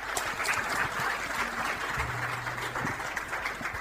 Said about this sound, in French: je demande qu'on applaudisse très fort.